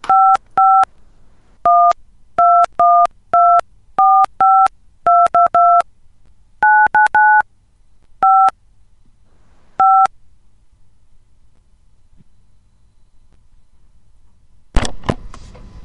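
A quick series of about fifteen telephone keypad tones beeps in an irregular rhythm as a call is patched through to a supervisor, each a short dual-pitched tone, followed by silence and then a brief burst of noise at the end.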